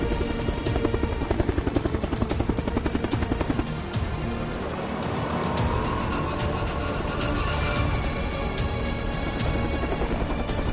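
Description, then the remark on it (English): A helicopter's rotor thuds in a fast, steady chop, loud, with a dense roar of engine noise that continues throughout, as the helicopter nears a property while a convoy of SUVs approaches. No one speaks. “The helicopter's near the property, and a convoy of SUVs approach.”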